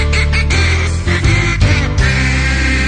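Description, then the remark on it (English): Loud, dense quacking strung together into the melody of a Christmas carol, like ducks honking out the song, with steady tonal pulses and no pauses over a few seconds. “He never got out his Christmas duck song.”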